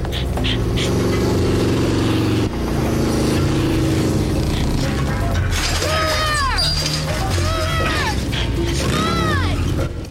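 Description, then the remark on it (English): A motorcycle engine roars loudly as Buffy rides after a vampire in a chase, a steady revving drone, joined in the second half by repeated high, sweeping squeals. “On a motorcycle, Buffy roars after the vampire.”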